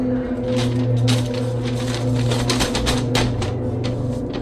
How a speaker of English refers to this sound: Then, I heard a crushing sound of a paper bag.